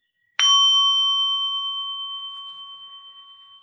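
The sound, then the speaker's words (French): A small bell is struck once, giving a clear, bright ring with steady overtones that slowly fades over several seconds. No voices or other sounds accompany it. “Je vais inviter une petite cloche pour le plaisir de l'inviter et pour faire une petite pause.”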